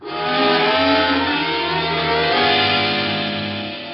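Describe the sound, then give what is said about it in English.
A car engine revs up and pulls away, its low, steady drone holding loud for a few seconds before easing off slightly. There is no talking. “Well, better get you into my chariot before you catch pneumonia. Some other car finishes you off.”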